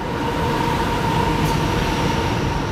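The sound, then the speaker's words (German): A train rumbles past overhead on the Münstener Brücke railway bridge, heard from the steps of the footpath that follows the bridge's arch below. A loud, steady roar of wheels and rail noise fills the whole moment with a faint metallic hum running through it. No one speaks. “Man steht hier drauf und über einem fährt einfach ein Zug entlang.”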